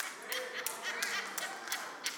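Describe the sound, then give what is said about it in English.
Scattered applause from a church audience during a sermon, a few hands clapping unevenly at the mention of Rahab, fairly quiet, with a faint murmur of voices underneath. “Some of y'all are clapping because you know who Rahab is.”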